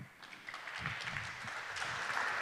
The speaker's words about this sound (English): Give an applause